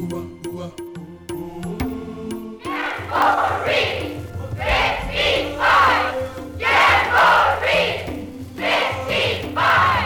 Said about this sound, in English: That enthusiastic yell will be shouted by 10,000 Boy Scouts from at least 50 countries when they gather in southeastern Canada for the 8th World Jamboree.